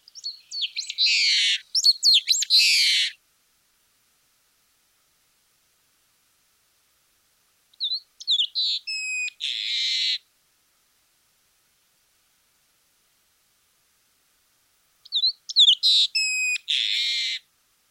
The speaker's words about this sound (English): Continuing even further south, in Argentina, we have a long-tailed meadowlark, Lystes loica. The specific epithet loica comes from the regional Spanish name for this bird, spelled L-O-I-C-A. Okay, here's a long-tailed meadowlark singing.